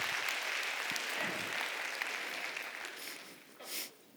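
audience clapping

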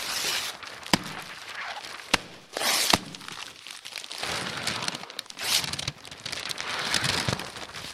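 paper being crumpled

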